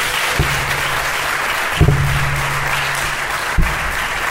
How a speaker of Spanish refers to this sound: Aplaudirle o algo, no sé.